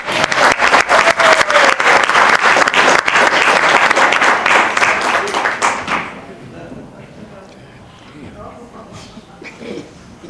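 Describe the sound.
A crowd bursts into loud, sustained applause with dense, rapid clapping for about six seconds, then it fades out and scattered voices and murmurs carry on quietly.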